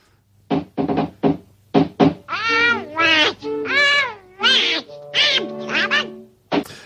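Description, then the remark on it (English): A voice imitates Donald Duck's raspy, quacking speech, starting with a few quick squawks and then running into longer warbling, garbled phrases, fairly loud. “That's how Donald Duck's... I can't do it. I can't do his voice.”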